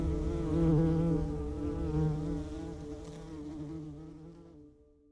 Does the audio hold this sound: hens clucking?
no